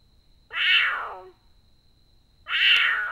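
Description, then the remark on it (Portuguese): Two drawn-out meows from a large wild cat, smaller than a jaguar, sounding just like a house cat, about two seconds apart, each one loud and rising then falling in pitch, with no talking. “Ele mia que nem um gato.”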